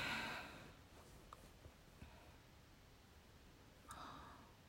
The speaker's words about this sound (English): I can hear you starting. Oh, I can hear you sniffling. It's okay. Cry it out.